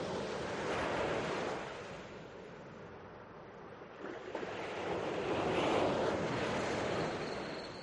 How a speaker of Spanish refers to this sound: El mar.